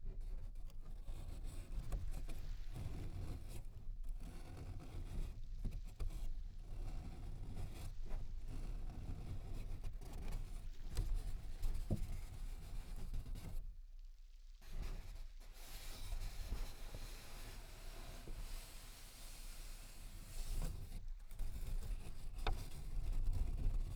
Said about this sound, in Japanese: 今の指の腹で撫でてます。紙袋の入り口を撫でてます。